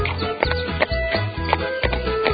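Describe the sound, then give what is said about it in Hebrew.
A strong horse's hooves clop in a steady, even rhythm, about two or three steps a second, moderately loud, over a low rumbling background with no talking. “זה סוס חזק. הוא לבד יכול לסחוב אפילו.”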